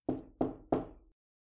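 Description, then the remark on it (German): Three firm knocks on an office door, evenly spaced about a third of a second apart, each with a short resonant thud and the last one ringing out slightly longer, with no voices. “Und dann stell dir vor, wie ein Klopfen an der Tür dich daran erinnert, dass du Chef einer großen Firma bist und gerade jetzt in deinem exklusiven Büro auf genau dieses Klopfen gewartet hast.”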